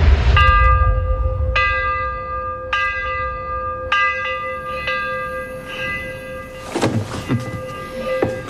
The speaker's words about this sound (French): À minuit, une cloche résonne pour les accueillir, et à 2h, une autre cloche leur signifie qu'il est temps de s'en aller.